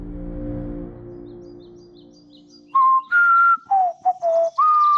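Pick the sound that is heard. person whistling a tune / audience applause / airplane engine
person whistling a tune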